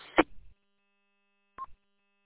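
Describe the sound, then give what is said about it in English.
A short crackling burst of radio static cuts off as the speaker unkeys, and after a second of near silence a dial-tone-like sound and a brief electronic courtesy tone from a linked radio repeater sound, with no one speaking. “Well, it's interesting, like when I, when I unkey, it makes like a dial tone like sound, and then it has the courtesy tone, which is interesting.”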